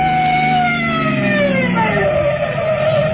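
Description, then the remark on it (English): A loud police car siren wails steadily as police chase a car through traffic, its pitch gliding slowly up and down over a rumbling engine, with no talking. “Here they come. It's cops, all right.”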